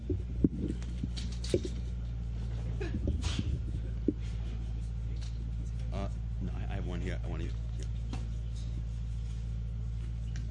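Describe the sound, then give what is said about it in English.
A truck engine idles, a steady, loud low rumble that holds unchanged for the whole stretch, with faint voices and occasional small knocks over it. “I'm just going to wait half a second till that truck leaves.”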